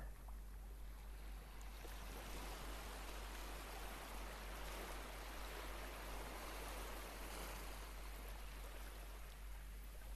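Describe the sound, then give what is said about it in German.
Gentle ocean waves come and go under a shining sun, a steady, continuous hiss of water, an even and unbroken soft roar with no voices present. “Wenn eine Welle kommt, atmest du tief ein. Und wenn die Welle wieder geht, atmest du tief aus.”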